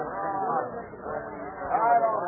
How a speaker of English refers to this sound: Are you folks, please stop talking. We can't get anywhere if we all talk at once. Speak one at a time.